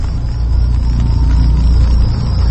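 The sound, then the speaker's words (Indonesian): An old bus engine idles steadily, a deep, continuous low rumble with a faint high whine on top, fairly loud with no one talking. “Perlahan ku injakkan kakiku masuk ke dalam bis tua itu.”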